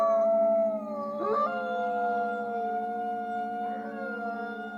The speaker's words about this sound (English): After this, we leave the howling wolves behind us and look at where rewilding is happening a little closer to home.